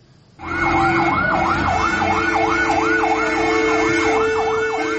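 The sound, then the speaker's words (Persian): A fire engine siren wails in rapid, regular up-and-down sweeps over a steady engine rumble, loud and continuous after a brief quiet start, with no one talking, as firefighters respond to a fire at the Zaytuna teahouse in the city of Bakhtar, Khatlon region, Tajikistan. “سوختار در قهوه‌خانه زیتونه در شهر باختر، آتش نشان ها به جای حادثه رسیدند و آن را خاموش کردند.”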